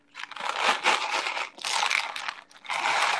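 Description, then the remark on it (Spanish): A box of Nerds candies, bought at a foreign food store, is shaken in three bursts, the tiny candies rattling with a dense, gritty hiss, like a rain stick. The first burst runs longest, and no one talks. “No es un palo de lluvia, son unos caramelitos que se llaman Nerd.”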